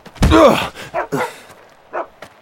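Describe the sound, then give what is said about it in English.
A dog barks: one drawn-out, howling bark, followed by a few shorter, fainter yaps spaced irregularly over the next couple of seconds, with no talking. “Cotton Blossom, where there's a dog, there's people.”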